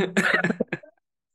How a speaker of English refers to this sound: Sorry for destroying this interview with my coughing.